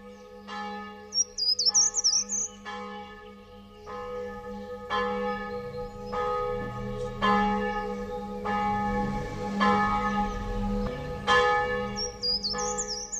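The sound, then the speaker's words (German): Church bells ring steadily in a repeating pattern of strikes with long ringing overtones before a church service, while birds chirp and twitter in the background outdoors on a sunny day in a town park. “Sie hören schon die Glocken läuten.”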